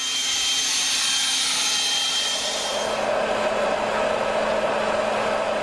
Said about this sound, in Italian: ma adesso qui in città ci sono tanti soffiatori elettrici, sono molto più silenziosi, sono, dipende dal modello, sono come un asciugacapelli o un aspirapolvere. Facciamo allora un test, soffiatore elettrico prima, asciugacapelli poi.